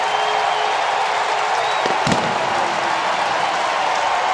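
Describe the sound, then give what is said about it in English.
A huge baseball stadium crowd roars and cheers in a steady, dense wall of sound after back-to-back home runs, the second into the upper deck, put the Cardinals ahead 2-0 in the first inning. A couple of sharp bangs cut through midway. No one speaks. “Back-to-back jacks, and the Cardinals lead 2-0. And listen to this crowd.”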